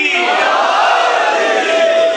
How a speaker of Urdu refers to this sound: آئمہ خدا علیہ الصلوۃ والسلام کی اس عظمت کو مد نظر رکھتے ہوئے نشہ ولایت میں مخمور دونوں ہاتھوں کو بلند کر کے لگائیں نعرہ حیدری.